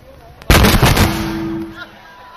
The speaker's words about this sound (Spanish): A ver, el de los petardos, por favor, que se controle. ¿Qué pasa con la seguridad aquí? No. ¿Quién está tirando bombas por ahí? Esto no nos había pasado nunca, esto de hacer un concierto y fuegos artificiales, no, la verdad.